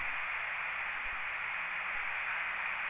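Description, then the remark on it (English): Steady radio static fills the whole stretch, a dense, even hiss of shortwave interference from another station tuning up, with no voices, holding at a constant moderate level without breaks. “You are 5 and 7 here with a little bit of tuning up in the middle of you.”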